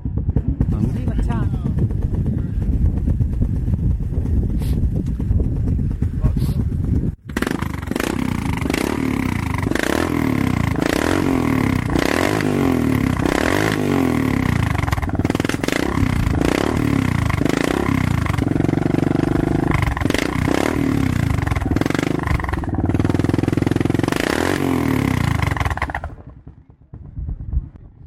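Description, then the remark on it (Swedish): A fully chromed, single-cylinder Suzuki DR Big 750 motorcycle from the late 1980s idles with a low, throbbing rumble, then roars up through repeated revs, its pitch rising and falling in loud bursts before cutting off near the end. “Motorn kommer från en Suzuki 750 DR Big.”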